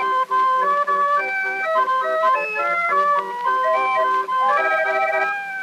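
A hand organ on a record grinds out a bright, reedy melody of held, overlapping notes, playing steadily and fairly loud with no voices over it.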